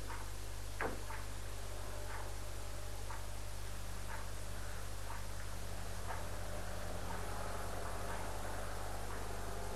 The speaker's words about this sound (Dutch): Het tikken van de klok.